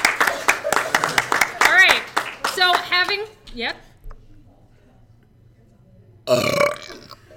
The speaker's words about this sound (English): I didn't think it was going to happen. It didn't seem like a good burp.